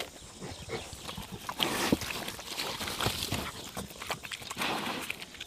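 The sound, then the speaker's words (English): Big pigs root and push with their snouts around microphones placed between them, making a steady jumble of dull thumps, scuffs and snuffling rustles at an uneven rhythm, with no one talking. “I just want to get a sound of you punching away.”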